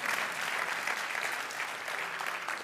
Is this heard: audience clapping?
yes